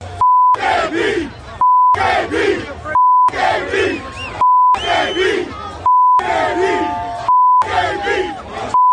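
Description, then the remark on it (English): A huge crowd of Raiders fans at a game against the Broncos chants the same short phrase about AB about six times in a steady rhythm. Each loud chant is cut off by a flat, steady censor bleep tone. “The crowd was still chanting, bleep AB, bleep AB.”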